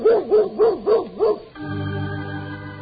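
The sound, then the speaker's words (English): A dog, Toby the Wonder Dog, barks five times in a quick, even rhythm, fairly loud, at a home on Long Island, then the barking gives way to a steady, sustained musical drone. “And so Howard and Kathy arrive back home on Long Island, only to meet Pop and his new friend, Toby the Wonder Dog.”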